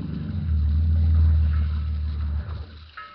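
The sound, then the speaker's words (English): A boat's motor rumbles low and steady about 2 miles out on the water in fog, then winds down and cuts out near the end as the boat is stopped, leaving quiet. “Stop the boat.”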